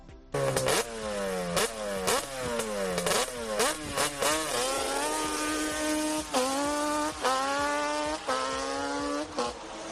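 A quad or off-road motorbike engine revs loudly, its pitch climbing in repeated surges as it accelerates through gears, with no voices; the kind of noise of quads, buggies and trial motorbikes used for tourism and sport on the rural roads of Andratx.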